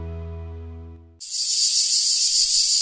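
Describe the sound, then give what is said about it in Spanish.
A cicada's loud, steady buzzing drone, used for the UPB Radio show El cant de la Chicharra, starts abruptly after a brief low musical tone and continues unbroken and shrill, with no voices present. “El cant de la Chicharra, música i desfici en UPB Radio.”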